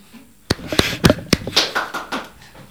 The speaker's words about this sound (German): Jetzt bräuchten wir eigentlich wieder den Soundeffekt mit dem Applaus.